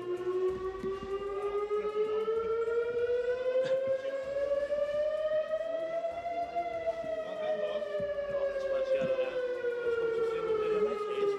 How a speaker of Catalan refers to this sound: Quan passaven un parell de minuts de les 11, aquí, som al carrer Major de Constantí, hem pogut sentir les sirenes que sonaven molt a prop d'aquí, a les que estan just al campanar de l'església. Si us sembla, podem escoltar com sonaven.